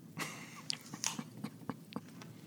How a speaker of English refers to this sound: All right. Now I'm just going to munch this moist apple with my teeth.